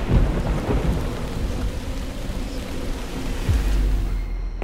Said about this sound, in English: Slowly but surely, dark, gray clouds formed overhead. Then drop by drop, rumbling and pattering, it began to rain.